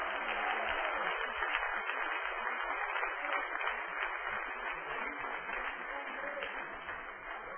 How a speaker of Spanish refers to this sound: Den un aplauso a ese Dios grande.